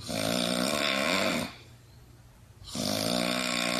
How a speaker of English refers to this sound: I'm so tired. I try to sleep next to my husband, but his snoring is so loud. I don't want to complain, but I need sleep. His snoring is annoying, but I also worry.